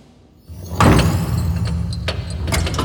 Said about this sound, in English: Elevator arrived. Chamber call. We're here. The doors have opened to a large spherical room. Empty. Walls made of metal.